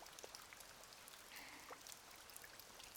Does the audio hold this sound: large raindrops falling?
yes